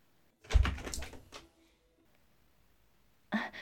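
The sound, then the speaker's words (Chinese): A home's front door is opened to welcome a visitor, with a heavy clunk and a brief rattling creak, then quiet before another sharp knock-like thud a couple of seconds later. No one speaks. “好，我们快去开门迎接吧。”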